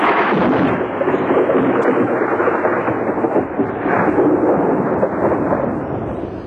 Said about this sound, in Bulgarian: Небето облаци покриват. Сега ще видят гръм и трясък.